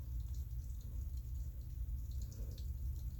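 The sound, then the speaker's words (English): Steady, quiet rainfall with a low, constant rumble and faint scattered drips pattering on top, continuous throughout with no voices. “You're more than welcome to tell me to shut up so you can listen to the rain.”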